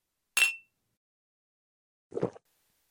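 A single bright glass clink with a brief ringing tone, isolated, as glasses are raised in a toast at a meal, followed a moment later by a duller knock, as if a glass is set down.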